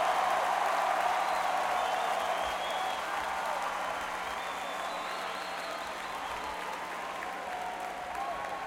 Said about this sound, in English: But when somebody else is playing, I think right now we should give all our noise, respect, and hands clapping for every band that played here today. I want to hear it now for all.